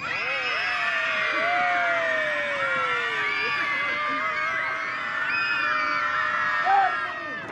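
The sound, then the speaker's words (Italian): A large crowd of children at a music event at Cielo Azzurro shouts and cheers loudly and continuously when asked to shout, their high-pitched voices overlapping in a dense, excited roar with occasional rising whoops. “Vorrei sentire urlare.”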